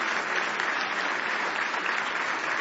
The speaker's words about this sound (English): Oh, give the Lord one more good hand clap of praise if you love him today.